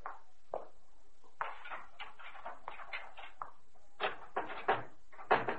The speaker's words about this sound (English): Hey, that's funny. I can't open the door. Huh? What's the matter? There's something heavy against the door, like a body or something.